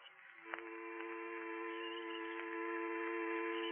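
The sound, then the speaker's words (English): A steady, droning buzz in a man's ears after a tearing pain in the back of his neck hums continuously throughout, low and dull, with a faint click near the start and the tone swelling slightly louder toward the end. No voices accompany it. “A low, dull, buzzing sound danced in my ears.”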